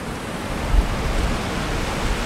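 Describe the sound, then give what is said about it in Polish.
A steady, dense roar of water rushing into and filling a lock chamber on the Augustów Canal, continuous and fairly loud with a deep low rumble and no voices. “Teraz śluza się napełnia.”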